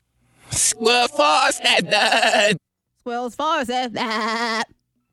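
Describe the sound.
The spoken phrase "That's all, folks" played in reverse, with wavering, quavery vowels that sound like a sheep bleating, in two loud bursts separated by a brief pause.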